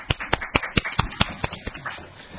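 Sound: meeting attendees applauding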